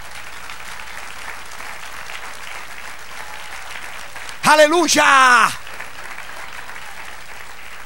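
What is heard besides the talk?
audience applause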